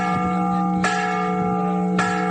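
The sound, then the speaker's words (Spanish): The large bell of the Torre de la Vela at the Alcazaba of Almería rings out at midday on 15 September in two loud, separate strikes, each leaving a long, sustained metallic hum that hangs in the air between them. “Y este mediodía, como cada 15 de septiembre, ha vuelto a sonar la campana de la Alcazaba de Almería, la de la Torre de la Vela.”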